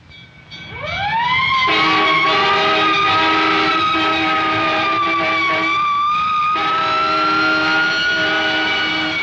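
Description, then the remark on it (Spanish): A loud ambulance siren winds up from a low pitch and holds a long, steady wail, with a second lower tone joining for several seconds, as the ambulance drives very fast with its lights on. No voices. “ambulancia prendía las luces e iba muy deprisa.”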